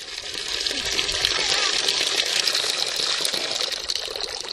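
Laundry is hand-washed in cold water under an outdoor water tap in front of an apartment building in Čerenac: water gushes steadily for the whole stretch, a continuous hissing splash with small irregular sloshes mixed in.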